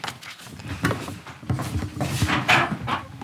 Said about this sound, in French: Et c'est une race particulière ? Hein ? Le petit chien, c'est une race particulière ? Non, oui. Oui, c'est quoi ? Je reconnais c'est pas. C'est un croisement des deux, là.